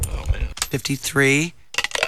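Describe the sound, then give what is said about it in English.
Coins clink and jingle as they are handled and counted out as a small cash prize, about 50 to 54 cents: a cluster of bright metallic taps followed by a short sustained tone and a few more quick clinks at the end. “There's 50 cents.”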